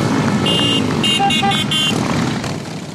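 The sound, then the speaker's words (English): Loud, steady rumble of Rolling Thunder members' motorcycles riding together in a Memorial Day motorcycle parade through Washington, D.C., with a few short, bright horn toots sounding over the roar before it eases slightly at the end. “Then they ride in a motorcycle parade through the city to honor veterans.”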